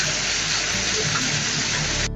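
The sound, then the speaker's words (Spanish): Floodwater rushes in a loud, steady hiss and roar, continuous, with no voices, then cuts off abruptly at the end. The flooding follows an afternoon downpour in Bogotá, Colombia, at the Palo Quemado judicial complex, where roofs collapsed. “En Bogotá se reportaron inundaciones y la caída de techos en el complejo judicial de Palo Quemado tras el aguacero de esta tarde”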